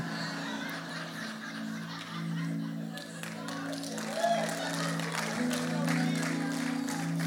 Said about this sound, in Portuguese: Tá parecendo stand-up, faz uma piada e tem aplauso.